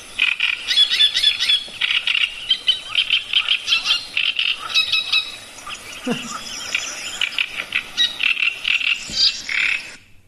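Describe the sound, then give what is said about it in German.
A person imitates the song of a great reed warbler: a loud, harsh, croaking chatter of grating, repeated phrases that runs almost without pause for about ten seconds, with no talking over it. “Und der Drosselrohrsänger, das kann man, finde ich, sich eben gut merken, weil er auch der größte Rohrsänger ist”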